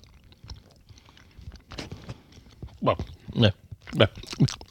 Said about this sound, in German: Aber das lässt sich essen. Hier kann man auch mal abbeißen, ohne dass einem alles im Mund verklebt.